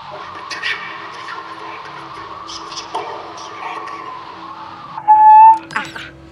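An eerie electronic signal, an extraterrestrial SOS signal picked up through a chimney and heard over a phone held up to it: a steady, warbling hum with faint chirps, then a loud, sustained high beep near the end, followed by a brief burst of scratchy noise.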